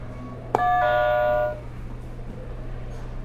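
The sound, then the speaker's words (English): A buzzer sounds once: a sharp click, then a bright, steady electronic tone that rings with several harmonics for about a second before cutting off, over a low background hum. “All right, you hit my buzzer for me, so we'll get started with our activities.”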